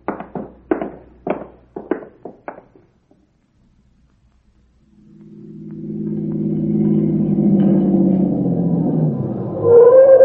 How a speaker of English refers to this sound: I heard your car come up the road and I thought...